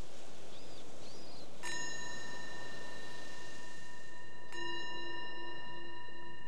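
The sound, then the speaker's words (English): Two clear strikes of a meditation bell, a few seconds apart, each with a bright attack and a long, sustained shimmering ring over a soft background hiss. “So again, the bell invites us to bring the awareness back to the surface, your surroundings.”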